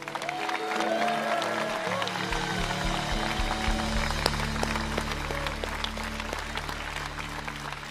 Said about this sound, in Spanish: Yo quiero que le den un aplauso a esos comunicadores tremendos.